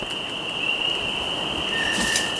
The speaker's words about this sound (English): We pass a beaver dam on our right before walking out to the edge of Clemens Pond. A spring chorus of frogs fills the air.